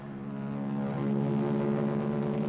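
Royal Canadian Air Force planes pass overhead towing a 10-ton maraschino cherry: a steady, droning engine roar, a deep layered hum that holds at a constant, fairly loud level throughout, with no voices.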